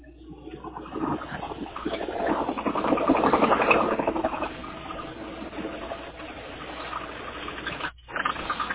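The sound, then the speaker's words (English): A heavy dump truck engine idles with a steady, grinding rumble as the truck gets ready to dump; the rumble swells briefly in the middle, then settles back, cutting out for a moment near the end before resuming. “I got a truck getting ready to dump.”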